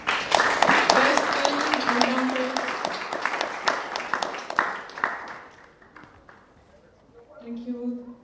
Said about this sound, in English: Thank you so much. Join me in applauding